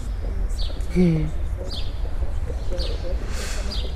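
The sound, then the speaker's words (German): Birds chirp in short, bright bursts every second or so against a steady outdoor hum, with a lower warbling call briefly standing out near the start. “Reicht eigentlich, das Vogelzwitschern zu haben, oder?”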